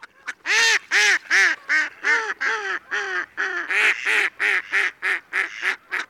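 Mallard ducks at Goose Pond quack in a rapid, steady series of loud, nasal calls, roughly a dozen in six seconds, with no voices.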